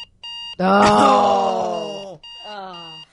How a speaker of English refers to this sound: Every alarm sound ever. Yep. Number 7 on the list is an alarm sound similar to this one.